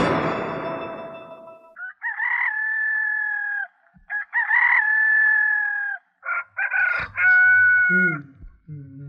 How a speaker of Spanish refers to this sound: ya cantó el gallo, ya levántate, no seas flojo. Ay, baby, todavía es muy temprano, apenas cantó el gallo.